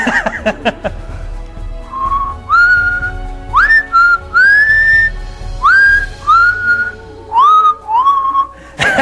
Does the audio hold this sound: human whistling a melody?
yes